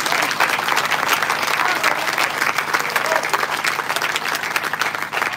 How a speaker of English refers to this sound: And while you're clapping, can you ring this tabernacle underneath this gospel tent for your men of God and for your first lady? Come on, clap your hands to the Lord.